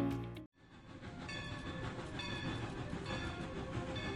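A Cumbres and Toltec Scenic Railroad train, serving Chama, New Mexico and Antonito, Colorado, rumbles steadily along the tracks, a dense, continuous clatter of rolling cars with bright metallic screeching tones layered on top, fairly loud after a brief opening tone.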